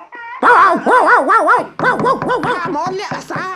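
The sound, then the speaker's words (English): A voice loudly imitates a dog barking, a rapid run of wavering, yelping woofs that continues for several seconds, with no other sounds. In a Pinocchio story, it is Pinocchio barking as loud as he can after shutting weasels inside a chicken house. “Quick as a flash, Pinocchio slammed the door behind them, rolled a large stone against it, and started barking as loud as he could.”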